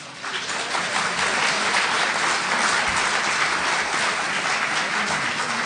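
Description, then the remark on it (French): Sustained audience applause for a speaker at a talk, a dense steady crackle of many hands clapping at an even loudness throughout, with no voices standing out. “Puisque je suis applaudi, j'arrête.”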